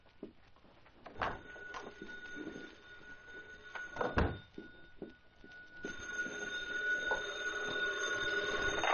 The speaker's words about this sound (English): My phone's ringing. The other room.